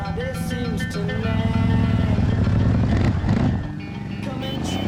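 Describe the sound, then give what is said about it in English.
A motorcycle carrying two riders roars steadily and then zooms off across sand, its loud rumble filling the scene while a voice speaks over the noise. “Spark and Spit look at each other disappointed as the bike zooms off.”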